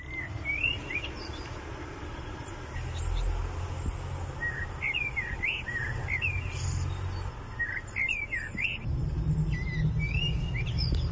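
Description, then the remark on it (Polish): A bird sings in repeated short, bright phrases across the whole recording, clear against a steady low rumble and faint insect-like hiss in the background; the bird has been singing without pause for over an hour. “To nagranie trwało o wiele, wiele dłużej, ale śpiew ptaka, wierzcie mi, nieprzerwanie trwa do teraz.”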